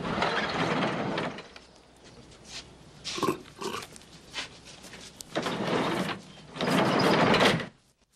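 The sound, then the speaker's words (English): A heavy sliding door of a large red barn grinds and squeals along its track as it is opened, in several loud, rough pushes, with clanks and rattling in the pauses between. “opens the sliding door and they go inside.”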